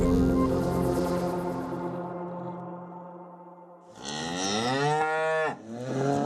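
A cow moos loudly, a long low drawn-out call followed by a second rising, strained moo, with no one speaking.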